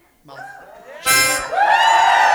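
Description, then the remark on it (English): A harmonica plays a wavering tone, then an audience, screaming on cue at the harmonica, suddenly erupts into loud, sustained screaming that continues over a steady, bright harmonic tone to the end. “Your job is when you hear the harmonica, y'all scream.”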